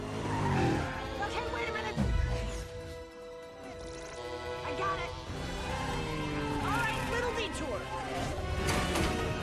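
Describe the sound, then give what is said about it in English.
A car chase scene from the film Spy, with Rose Byrne on a motorcycle: tires skid and squeal in long rising and falling wails over roaring engines, loud, with a sharp impact early on and voices mixed into the chaotic din. “Okay, so she's doing she gets on a motorcycle to do a little car chase.”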